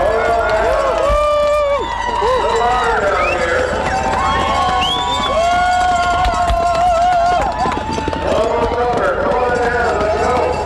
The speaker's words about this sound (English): As you can hear, there's a big crowd gathered here, people lining almost every inch of the chute here to welcome Aaron Burmeister into his 10th position finish for the 2014 Iditarod.